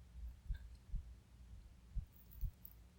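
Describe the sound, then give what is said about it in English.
A soft, muffled heartbeat, still racing a bit, thuds in paired low beats, steady and quiet over a faint background hum, with no voices. “Listen to my heartbeat again.”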